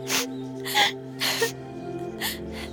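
crying

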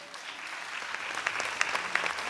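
audience clapping

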